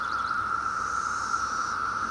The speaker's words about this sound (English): This is Brood 10, 17-year periodical cicadas. That's the big boy band up in the treetop. Right now it's all about romance.